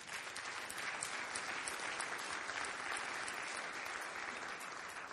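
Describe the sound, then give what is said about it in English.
Sustained applause from a sizable audience, a dense, steady patter of many hands clapping at even loudness throughout, with no voices standing out. “But here's why I hope you're clapping.”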